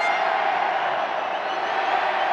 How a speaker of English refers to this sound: When he wins a takedown, he taunts the audience, and they yell back. When he gets body slammed, the crowd erupts in euphoria.